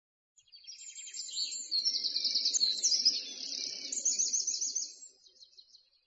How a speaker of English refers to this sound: I can hear birds. Yes, we're in Bird Park.